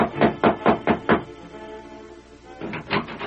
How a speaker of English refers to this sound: While the Lone Ranger and Tonto were riding toward the ex-Bar X ranch, Ted Bassett was knocking at the ranch house door.